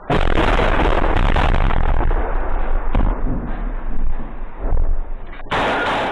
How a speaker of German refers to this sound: Es soll zeigen, wie russische Soldaten ein zerschossenes Haus bei Wuhleda in der Ostukraine verteidigen. Aus dem Gebäude gegenüber lodern Flammen, etwas explodiert, Schüsse fallen.